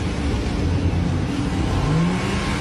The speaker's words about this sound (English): Seems like he's starting the car.